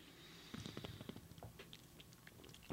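sipping beer

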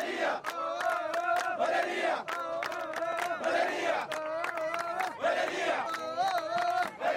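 protest crowd chanting slogans

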